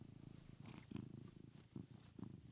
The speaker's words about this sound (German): Übrigens, wenn das hier so im Hintergrund so ein bisschen brummt, das ist mein Kater, warte mal, ich versuche mal, das Schnurren richtig aufzunehmen.